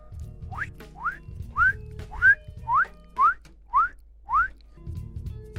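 A quick run of eight rising whistle chirps, evenly spaced about half a second apart, bright over a low background rumble, with no talking.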